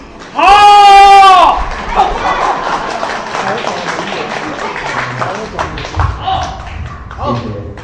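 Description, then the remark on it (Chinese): An audience applauds steadily throughout at a xiangsheng crosstalk performance, "Labor Chant" by Zhang Helun and Han Hexiao, a dense patter of clapping that opens under a loud sustained vocal cry and continues beneath talking voices until it tapers off near the end. “谢谢各位的掌声鼓励， 感谢大家伙，”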